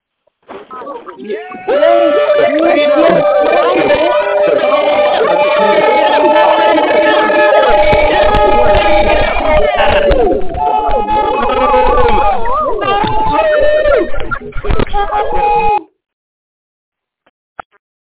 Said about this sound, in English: And guys, if that excites you, if being alive excites you, I want to hear you screaming at the phone as I unmute the lines right now.